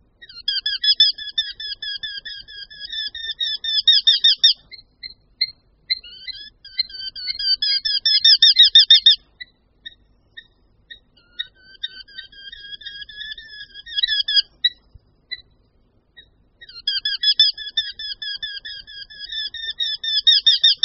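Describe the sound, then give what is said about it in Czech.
Eurasian hobby courtship calls, given during the courtship display that precedes nesting: rapid, shrill, repeated notes delivered in four long bursts separated by short pauses, loud, with no voices or other sounds. “Hnízdění předchází tok, který je doprovázen velice výraznými hlasovými projevy.”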